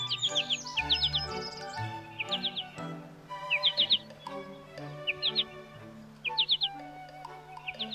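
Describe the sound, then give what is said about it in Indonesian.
A sooty-headed bulbul sings in bright, repeated bursts of quick rising chirps, about one phrase every second or so, clear over a busy background with low tones and murmuring. “Merdu sekali. Pasti itu burung kutilang.”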